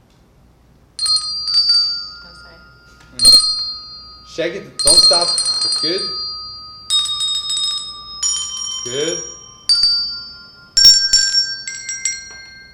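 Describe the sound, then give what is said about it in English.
Several hand bells, held up by audience volunteers forming a bell choir, ring out together in repeated bursts, their bright tones overlapping and sustaining, while a voice gives brief encouragement between and over the ringing. “Make sure everybody know how to play the bell. Hold them up.”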